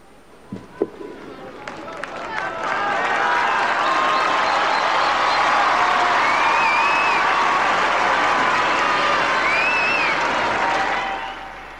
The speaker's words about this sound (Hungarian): A taps és a köszöntés ma sem maradt el.